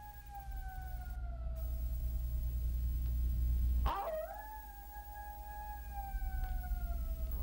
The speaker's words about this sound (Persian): راستی اگه صدای زوزه چیزی شنیدی نترسی ها، گرگ نیست. زوزه؟ آخه بعضی وقت شغال هم هوس میکنن آواز بخونن.